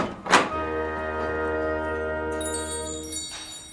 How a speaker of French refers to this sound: Bonjour, bonjour, dis-je en poussant la porte.